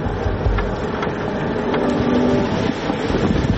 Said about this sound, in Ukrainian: Крайня східна точка України знаходиться за 5 кілометрів від села Рання Зоря. Доїхати туди нелегко. Для цього вам знадобиться обов'язково повнопривідна машина. Дороги тут, в принципі, немає. Нам доводиться їхати просто полем.